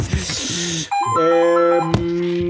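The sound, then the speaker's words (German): An old-fashioned house telephone in a basement rings loudly, a sustained, bright tonal ring that starts after a moment of background noise and carries on, with a sharp knock partway through. “Das ist ein Haustelefon hier unten im Keller. Es klingelt leider pedantisch laut.”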